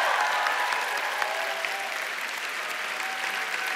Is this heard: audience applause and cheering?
yes